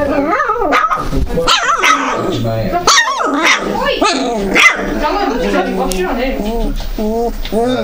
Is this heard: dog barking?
yes